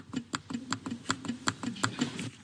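Rapid typing on a cheap laptop keyboard, a steady run of sharp, clattery key clicks with a slightly hollow, plasticky tone and no voices.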